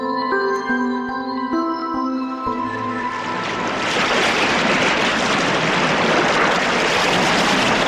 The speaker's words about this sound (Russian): Шумит, кипит в камнях река, слушает Пашку, понимает и несется дальше.